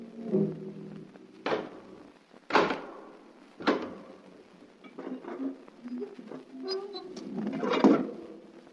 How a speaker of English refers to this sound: Once again, the keeper of the book has opened the ponderous door to the secret vault,